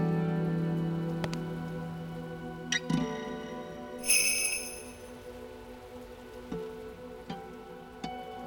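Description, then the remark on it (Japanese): Steady rain patters all around in the old town of Shanghai, a dense wash of drops with occasional sharper taps and drips standing out, and a brief bright chiming shimmer rising partway through. “重く憂鬱を押し込めるように四方から迫る雨の音。”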